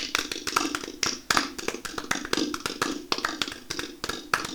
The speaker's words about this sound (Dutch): Ja, het hoeft eigenlijk niet zoveel applaus hoor. Ik word er een beetje verlegen van. Ja, dank u. Is de applaus allemaal echt van mij?